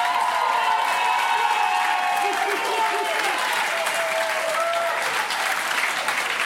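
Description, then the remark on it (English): A home crowd at an awards ceremony applauds loudly and steadily after the first award, with whoops and cheers rising over the dense clapping throughout, sustained at full volume for several seconds. “I'm a bit worried about, I don't know about you, but if this is what the home crowd are like after one award, that could be a very long evening, okay?”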